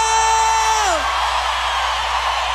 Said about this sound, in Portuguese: Vem! Quem gostou solta o grito.